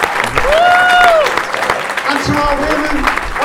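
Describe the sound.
An audience at a Walthamstow Rock and Roll Book Club event in Walthamstow claps steadily and loudly for the host, with a sharp rising-and-falling whistle cutting through early on and scattered cheers and voices mixed into the applause.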